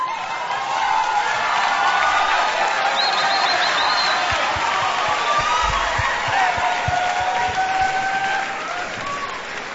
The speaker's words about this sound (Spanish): Aquí están, un aplauso para ellos, los Mora Arriaga.